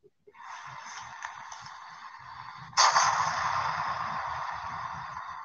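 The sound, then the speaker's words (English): A hissing, rushing noise builds for a couple of seconds, then a sudden loud blast of an explosion sound effect erupts and roars on steadily with crackling rumble, no voices present. “Let me just do the explosion right here.”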